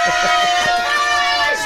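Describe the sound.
A small group cheers and whoops loudly and continuously, a dense burst of excited voices and screams that fills the short moment close to the microphone.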